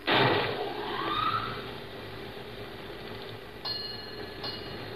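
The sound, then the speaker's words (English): A ship's fog bell, started because fog is coming in, rings with one loud metallic clang that slowly fades, then two lighter, quicker strikes near the end over a steady low background hum. No one speaks. “Fog's coming in. The mate says to start the bell.”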